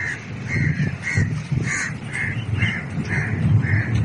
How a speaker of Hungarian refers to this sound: A lakók beszámolói szerint a fekete madarak egyre merészebbek, berepülnek a lakásokba, ellopják az ételt az asztalról, és hajnali károgásukkal zavarják a pihenést.